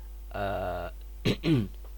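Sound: throat clearing cough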